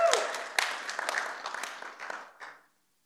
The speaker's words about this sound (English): I happen to be related to someone celebrating their 84th birthday today, and we'll celebrate that a little bit later today. Yeah, but you can clap now. That's good.